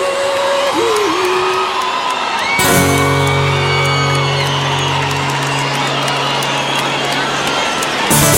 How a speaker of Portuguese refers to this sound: Quem gostou só do gritão?